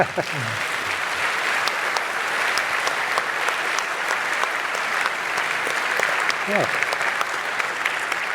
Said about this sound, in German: Ja, vielen Dank für diesen super tollen, auch sehr praxisrelevanten Vortrag. Und ich würde sagen, ach komm, noch ein bisschen Applaus, oder?